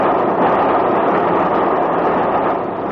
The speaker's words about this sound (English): That was Balcombe we just passed through. 20 minutes from Brighton. Say, this is a good train, isn't it? Running right on the nose. Another 40 minutes to Victoria.